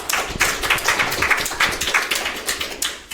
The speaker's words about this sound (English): So everybody give him a round of applause, please.